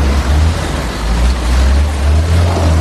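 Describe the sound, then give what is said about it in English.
A heavy machine's diesel engine is revved hard, roaring loudly and steadily with a deep throbbing rumble that fills the whole stretch, with only slight surges in intensity and no voices. “They're completely thrashing that engine.”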